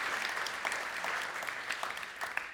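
A crowd applauds steadily, a dense wash of many hands clapping at once, moderately loud and sustained throughout without any voices standing out.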